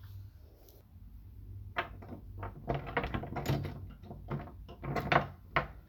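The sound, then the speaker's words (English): A rope is tied to a door handle, with a quick run of rattles, knocks and rubbing sounds as the handle shifts and clunks against the door. No one speaks. “I'll be hooking the other end to this door handle.”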